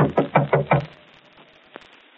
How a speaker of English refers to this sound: Better knock harder.